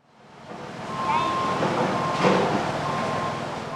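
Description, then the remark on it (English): Dump trucks and heavy equipment rumble and grind steadily, bulldozing and clearing roads after flooding in Ludlow, Vermont, with a thin, high electronic beep sounding in stretches over the engine noise. No one speaks. “Dump trucks and heavy equipment beep and bulldoze on either side of Ludlow, clearing the roads and stirring up a hazy layer of dust.”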